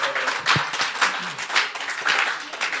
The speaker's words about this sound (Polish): No nieźle ci poszło. Wielkie brawa dla pastora.